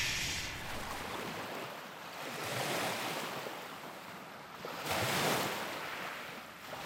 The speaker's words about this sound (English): So here's a recording of waves lapping on a beach.